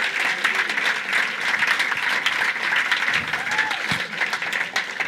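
A church audience applauds its leadership team steadily for about five seconds, a dense, even wash of many hands clapping at a fairly loud level with no voices standing out.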